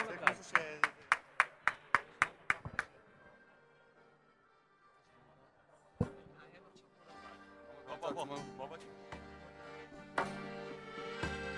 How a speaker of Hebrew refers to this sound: מגיע להם מחיאות כפיים.